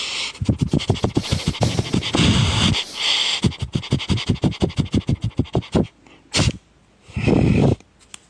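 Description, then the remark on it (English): A person sniffs rapidly like a dog in two long runs of quick rhythmic sniffs, followed by a couple of louder, breathy bursts near the end. No one speaks. “Sorry, but can I sniff you like a dog?”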